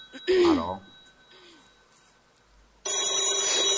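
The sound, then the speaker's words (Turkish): A telephone rings loudly and steadily near the end, its bright electronic trill starting abruptly after a brief vocal sound and quieter background. “Telefoncuğum niye çok çalıyorsun?”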